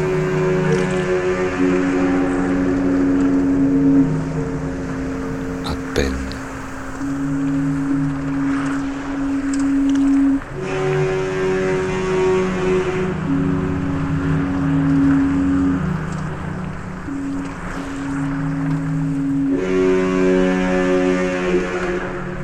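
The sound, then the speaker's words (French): A large ship departing from Marseille rumbles steadily with a deep engine drone as its anchor chains slide, with long sustained horn-like tones rising and falling over it and no voices. “Marseille, terre de migrants et de migrations, entrevue contre les barreaux, pendant que glissent les chaînes d'encre, à l'annonce du départ.”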